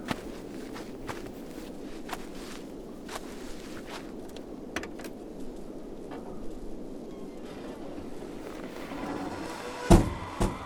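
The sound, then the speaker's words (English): Steady footsteps crunch along outdoors as people walk back to a car, then near the end a car door opens and thuds shut, with faint rattling of keys just before it. No one speaks. “Let's get back to the car.”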